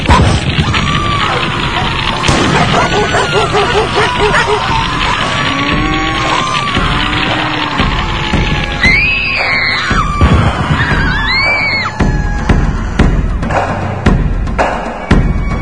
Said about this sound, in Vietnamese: Tiếng chó sủa vang lên, tiếng bò giống inh ỏi, tiếng đàn bà trẻ con kêu khóc om sòm, tiếng người rú kinh khủng.